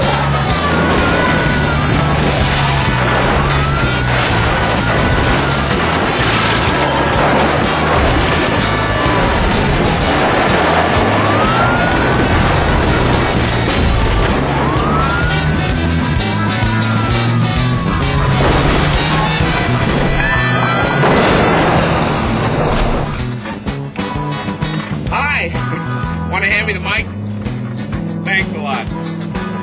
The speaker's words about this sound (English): We're in a truck.